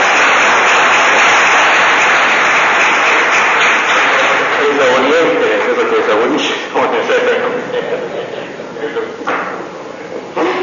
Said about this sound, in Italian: Benissimo, allora non possiamo far altro davvero che ringraziare il professor Stefani, che con grande pertinenza e preparazione è stato davvero stimolante ed esaustivo su questa tematica. Un applauso e grazie.